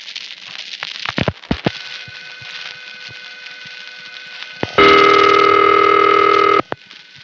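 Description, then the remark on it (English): Telephone exchange switching on a coin phone call with no coin deposited, as the marker reroutes the call to the dial tone first intercept recording: a few sharp relay clicks over a faint line hum, then a loud, steady dial tone holds for nearly two seconds before cutting off abruptly. “At that point, the originating register sender finds out that there's no coin, and so it calls the marker again, requesting a reroute to the dial tone first intercept recording.”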